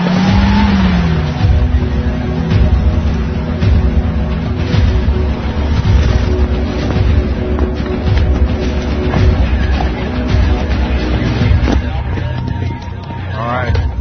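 A car engine revs loudly and steadily, its roar rising and falling, with tires squealing in brief sharp bursts, especially near the end.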